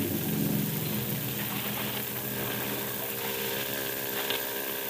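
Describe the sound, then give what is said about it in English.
A boat motor up ahead in a foggy channel drones steadily throughout, a low harmonic hum layered with broad hiss, even in loudness with no pauses and no voices. “Better not steer directly to where the sound of his motor's coming from.”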